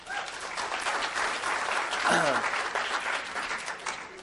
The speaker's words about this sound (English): Very good. Round of applause for yourselves.